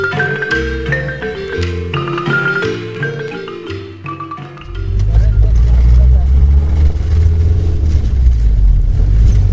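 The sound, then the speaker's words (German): A short stretch of music gives way to the loud, steady rumble of a car driving over a gravel road in northern Guatemala, with a gritty, rolling noise filling the second half. “Wer im Norden Guatemalas mit dem Auto unterwegs ist, sollte genug Sitzfleisch mitbringen.”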